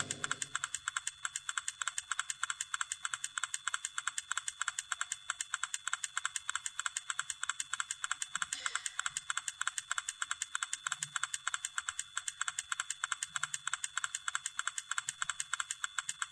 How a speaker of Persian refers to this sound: ببینیم وقتی دارید می نویسه اینجا صدای تایپش هم میاد، البته اگه اسکریپت نصب کرده باشین.